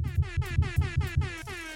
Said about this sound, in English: Hey, air horn.